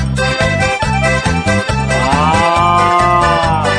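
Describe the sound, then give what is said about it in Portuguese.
A long, low ox moo swells and fades in the second half, sitting over a steady, bouncy band groove with a thumping bass beat throughout. “Sai pra lá, boi, agora você perdeu a vez.”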